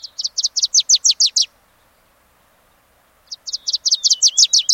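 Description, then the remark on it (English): A bright yellow Wilson's warbler sings two loud bursts of rapid, sharp chattering notes, each about a second and a half long, separated by a short pause. No voices. “There's the bright yellow Wilson's warbler.”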